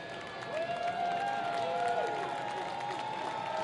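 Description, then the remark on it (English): A baseball stadium crowd applauds as a man who rushed the field is walked out by the grounds crew, a steady, dense wash of clapping, with scattered cheers and a few rising and falling shouts or whistles riding over the noise. “The crowd will applaud as he's taken in.”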